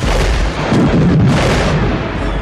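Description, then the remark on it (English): Three loud missile explosions erupt in a dense roar of overlapping blasts, deep rumble and crackling debris, with no gap of quiet between them. “In his mind was a picture of the 3 explosions, placing him toward the westmost edge of one of the blasts.”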